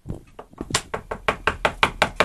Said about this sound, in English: you got a knock at the door.